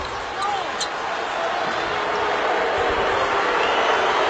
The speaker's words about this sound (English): Crowd doesn't like it.